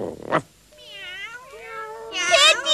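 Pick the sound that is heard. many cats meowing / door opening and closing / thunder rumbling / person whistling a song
many cats meowing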